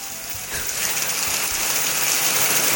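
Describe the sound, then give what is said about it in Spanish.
Heavy rain pours down in Crucero, in the Río Bueno commune of Ranco province, in a steady, dense hiss, spattering loudly and continuously on surfaces, with no voices and no break in the downpour. “Llegó la lluvia.”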